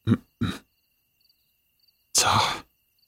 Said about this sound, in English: But you don't have to cry and blow your nose all over me. Ugh, that's so gross. At least get a tissue.